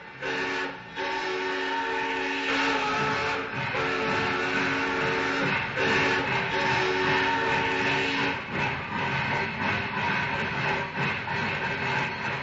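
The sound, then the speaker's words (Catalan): A steam train pulls out of a station with a long, sustained multi-tone whistle over steady, loud hissing steam and rumbling, with occasional bursts of noise throughout. No one speaks. “Bueno, doncs ja hem arrencat de l'estació.”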